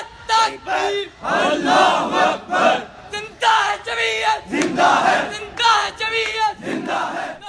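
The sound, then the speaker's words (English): A group of voices from the Islamic student group Islami Jamiat Talba (IJT) shouts insults at dancers, calling the event immoral and un-Islamic, in loud, overlapping bursts, the yelling rising and breaking off again and again in an uneven, chant-like rhythm. “As the dancers came under attack from Islamic student group, Islami Jamiat Talba or IJT, the group shouted insults, called the event immoral and un-Islamic.”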